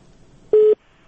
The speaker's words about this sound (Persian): بله بفرمایین صاحب. متاسفانه دو تلفن هم قطع شد.